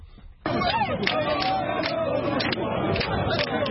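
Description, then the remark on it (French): A dense crowd of opposition street protesters in Lomé, Togo, stretching over several kilometres and demanding a return to the 1992 constitution, fills the air with a steady, loud roar of overlapping voices and shouts, bursting in abruptly after a brief quiet moment and holding at full intensity. “La rue grogne à Lomé. Des manifestants sont visibles sur plusieurs kilomètres.”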